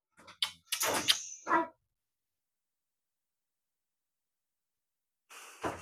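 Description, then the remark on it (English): A door slams shut, a loud burst of banging and rattling over the first two seconds, followed by silence and then a brief, softer clatter at the end. “We were just trying to tell him not to slam the door.”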